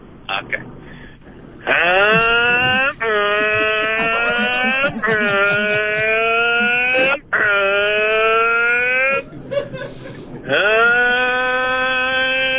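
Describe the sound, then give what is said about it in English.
A person imitates a motorbike engine with long, loud, droning vocal tones. The revving pitch climbs and holds across several sustained bursts with brief breaks between them. “So just start making a motorbike sound for me.”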